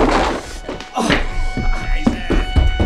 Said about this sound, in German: Dann griff er blitzschnell nach einem Stuhl und schleuderte ihn den Dreien entgegen.